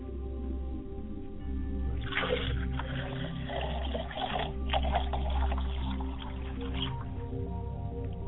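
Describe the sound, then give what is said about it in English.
Water is poured for a ritual purification, splashing for several seconds in a steady rushing stream over a low background hum, then trailing off into faint dribbles. “The purification is ready as I go over to purify myself.”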